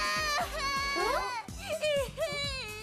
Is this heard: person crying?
yes